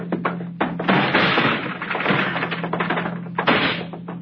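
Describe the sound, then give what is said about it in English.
A locked door is kicked in: a run of heavy thuds and splintering cracks, loud and rough, with no voices, only a low steady hum beneath. “It's locked. I don't have a key. Oh, I'll kick it in.”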